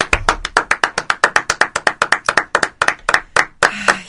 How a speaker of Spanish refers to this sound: Se lleva la ovación más larga del mes.